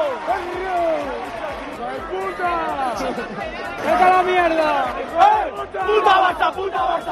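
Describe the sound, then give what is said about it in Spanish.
A large crowd at the Palacio de los Deportes chants and shouts insults in unison at Barcelona midfielder Gaby as he comes out, voices rising and falling in a loud, continuous roar with swelling peaks, over dense background hubbub. “Bueno, curiosamente en ese Palacio de los Deportes el lunes se gritaba esto cuando salía Gaby.”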